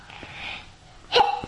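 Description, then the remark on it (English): A single sneeze: a soft, breathy intake of air followed moments later by a sharp, explosive burst. No one speaks. “Bless you.”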